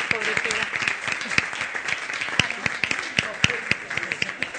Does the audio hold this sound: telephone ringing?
no